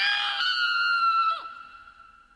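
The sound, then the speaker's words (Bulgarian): A single high-pitched, frightened scream rings out loud, held steady for over a second before breaking off and trailing away, apparently a voice acting out a girl's shriek as a mouse runs up her leg. “Милдред, като изпуснала Доли в страха си, започнала да пищи”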